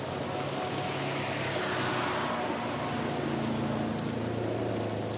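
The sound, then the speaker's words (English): A sports car engine holds a steady, throaty drone with a low rumbling hum and a wash of road or wind noise, continuous throughout, with no one speaking. “I love that sound. This car is make all your rock and roll fantasies come true.”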